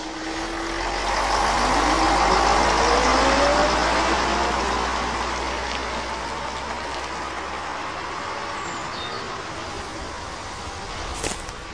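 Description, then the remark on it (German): A bus engine idles at a stop by a lonely car park on the Swabian Alb, Germany, rumbling steadily at a low pitch with a broad hiss of mechanical noise and a faint rising whine; the deep drone cuts out near the end, leaving a softer hum. “in einen Bus, der mich hochbringt auf die Schwäbische Alb. An der verabredeten Stelle bitte ich den Fahrer zu halten.”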